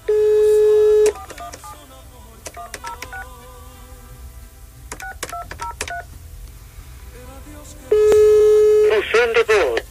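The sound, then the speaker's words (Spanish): A steady phone tone opens, then a quick series of short keypad dialing beeps in bursts as a call is placed to a mobile phone that is switched off, ending with another sustained tone and a brief recorded Spanish voice, all fairly loud. “Si le intentas otra vez, le estoy escribiendo que le estoy marcando.”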